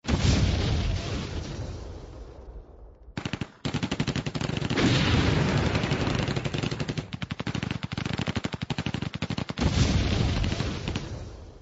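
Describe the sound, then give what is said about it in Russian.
Sustained gunfire exchange at the front line 17 blocks away, heard at night from a hotel room with the window open: rapid, overlapping bursts of machine-gun fire and scattered single rifle shots, rolling on almost without pause after a brief early lull; no voices are heard. “Окно в номере отеля открыто, и лежа в постели, слышишь стрельбу на передовой линии за 17 кварталов отсюда. Всю ночь не прекращается перестрелка.”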